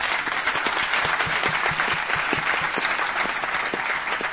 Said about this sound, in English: If you had a young adult at your table and had an awesome conversation, just by a round of applause, how was that?